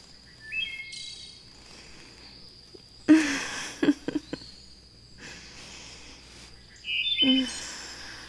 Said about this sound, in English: Yeah, tell the birds to shut the fuck up.